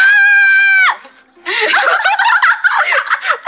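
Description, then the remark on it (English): A person screams into a microphone, loud and piercing, held steady for about a second, then a brief pause followed by a burst of excited laughter and chattering vocal noise. “Don't scream in my ears.”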